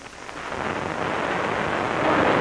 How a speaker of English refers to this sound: Yeah, there's water down there. That's where she fell. I can hear it. Yeah, it must lead down a couple of floors to the river.